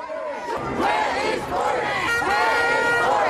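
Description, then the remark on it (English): A large protest crowd chants together while marching through the city to Downing Street, protesting injustices against black people after the death of George Floyd, many voices rising and falling in a steady, repeating rhythm. The chanting is loud and continuous for the whole stretch. “Then the crowd marched through the city, stopping at the Prime Minister's office and residence on Downing Street.”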